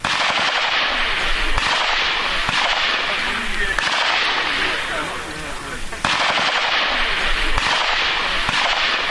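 Sharp cracks and short bursts of automatic weapon gunfire from reservists' training exercises in Donetsk go off repeatedly over a loud, continuous roar of outdoor noise, with quieter stretches between the volleys.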